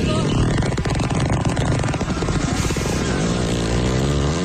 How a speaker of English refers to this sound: and it is animals farting. I'm going to play that again.